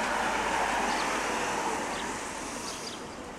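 A steady, rough hum of rolling suitcase wheels runs continuously nearby, easing off slightly toward the end, with faint bird chirps in the background.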